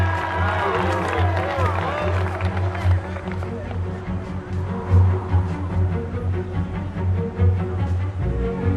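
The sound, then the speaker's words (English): A baseball crowd of Jackie's supporters claps and murmurs steadily after he dives back to first base before the pitcher Higbee's throw arrives. Scattered hand claps blend into a dense wash of chatter and cheering that holds at a fairly loud, even level throughout. “His supporters clap.”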